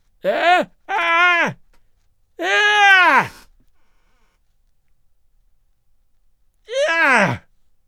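An old man shrieks in four loud, strained bursts, each arching up in pitch and then sliding down. Three come in quick succession, and a final one follows after a long silence.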